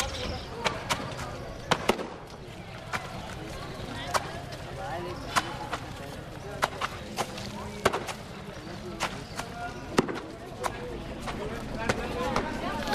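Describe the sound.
Wet clothes being washed by a washerwoman slap down hard against stone slabs again and again, sharp loud smacks at an uneven pace of roughly one per second, over a bustling background with murmuring voices.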